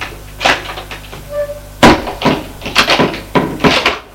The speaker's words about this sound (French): Arrivé au troisième étage, ils suivent un couloir sombre avec des portes. Le maire ouvre une porte. Entrez.